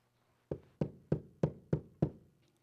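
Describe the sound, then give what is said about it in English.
Six firm knocks on a door, evenly spaced in a steady rhythm, fairly loud, each with a short hollow decay, with no voices around them. “Jesus is knocking at the door.”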